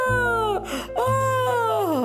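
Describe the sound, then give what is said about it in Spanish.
In a told story, a voice imitates the painful scream of Love, whose eyes were wounded by rose thorns as Madness poked a rosebush: two loud, drawn-out wails, a short one then a longer one, each sliding downward in pitch with a strained, crying quality. “Cuando de pronto un doloroso grito se escuchó.”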